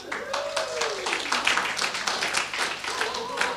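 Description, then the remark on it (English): An audience at a church gathering claps steadily for a challenge champion, a dense patter of many hands with a few cheers or voices rising faintly above it, holding at moderate loudness for the whole stretch. “You don't know why you're clapping, do you?”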